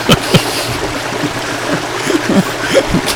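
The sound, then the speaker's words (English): Water slaps irregularly against the hull of a boat drifting while fishing for trout: several soft, hollow thuds over a steady wash of lapping water, with no one speaking. “It's a lot of hull slap.”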